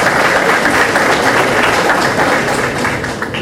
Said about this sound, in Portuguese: Uma salva de palmas